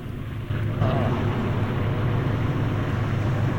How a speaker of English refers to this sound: The boat bobs up and down on the tide as it speeds along. Now the boat's motoring back towards the marina.